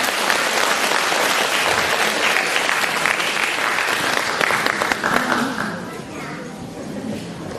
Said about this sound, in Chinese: 现在让我们用最热烈的掌声恭请我们尊敬的卢军宏台长。